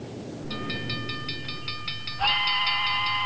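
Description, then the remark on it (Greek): A small train, driven through Santa Claus's toy factory, chuffs into motion with rhythmic steam puffs, then a shrill, high steam whistle blasts and holds steady over a hissing background. “Τον ανέβασε δίχως καθυστέρηση σε ένα τρενάκι. Έβαλε μπρος τη μηχανή και πήρε το δρόμο μέσα από το εργοστάσιο παιχνιδιών του Άι Βασίλη.”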